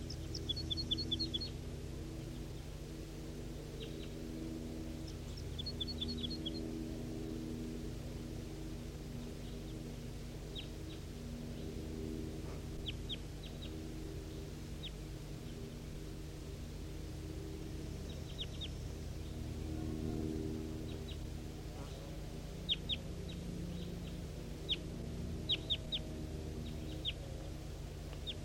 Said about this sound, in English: Here goes that wild one towards the other wild birds, away from the net. Stop. This is 5:03 now at 8:30, responding to wild birds somewhere up at the top of the hill.